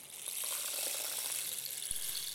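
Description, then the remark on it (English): A steady, hissing patter of tiny particles cascading through a rain stick turned upside down, a dense rattling shower concentrated in the high end, sustained at an even level for a couple of seconds with no voices. “So when we turn it upside down, we can hear what sounds like rain.”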